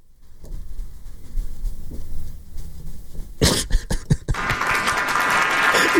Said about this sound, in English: I don't know if you could give yourself the applause for that one.